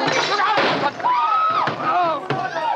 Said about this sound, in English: No, no, he knocked my hand. The revolver went off. The shot went wild, I swear it did.